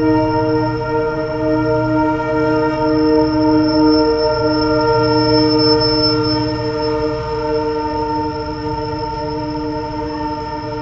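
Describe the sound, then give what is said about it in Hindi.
A loud train horn blares in one long, unbroken blast for about ten seconds, with the low rumble of the passing train beneath it and no voices. “But there are no trains in Goloka Vrindavan.”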